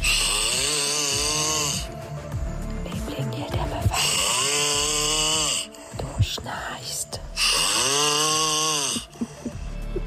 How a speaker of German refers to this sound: Und sie haben uns in den letzten Tagen ihre Schnarchgeräusche geschickt. Und ich kann Ihnen versprechen, auch wir mussten echt schlucken.